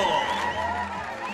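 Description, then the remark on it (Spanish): Wedding guests cheer in honour of the bride's mother, a steady, dense wash of overlapping voices with a layer of clapping underneath, holding at an even level for about a second and a half. “Un poco flojo, el aplauso fuerte en honor de la madre de la novia.”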